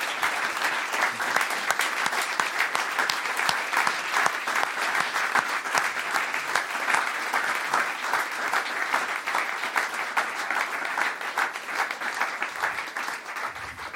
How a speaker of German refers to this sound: Jetzt gibt es einen großen Applaus für dich und vielleicht kannst du uns dann erzählen.